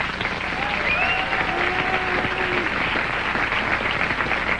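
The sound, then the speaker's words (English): An audience applauds to answer how many of them have never been polled, a steady, dense wash of clapping that holds at an even level for several seconds, with a few faint voices and whistles rising out of the noise. “By round of applause, how many people here have never been polled?”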